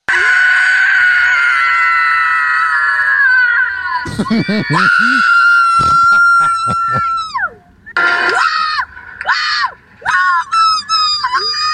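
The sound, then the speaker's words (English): A loud, shrill, sustained scream breaks into choppy stuttering bursts, then sags and dies off in pitch before a few weaker, broken screams return, like a toy whose battery is running down. “It was like the like battery died of like the annoying person screaming.”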